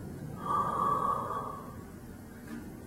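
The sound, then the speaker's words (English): A voice imitates one slow, drawn-out inhale of a mother dying of cancer, a breathy rasping intake that swells and then fades gradually. It is fairly quiet, with no talking around it. “My mom's breathing was slowing.”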